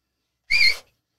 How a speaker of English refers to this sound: Do you know how to whistle? I won't do it in here because it'll kill audio. No, loud whistle. Like, yeah, go on, do it. Go on, do it. I'll do it off mic.